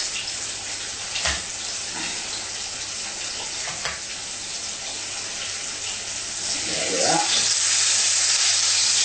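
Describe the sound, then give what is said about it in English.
A steady sizzle of crushed shallot frying in hot oil, with a few brief knocks and stirring sounds, the crackle growing louder near the end. “I just crushed the shallot in the oil.”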